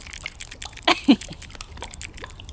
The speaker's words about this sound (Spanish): ¿Pero qué es esto, ruido de agua? Has puesto cualquier cosa.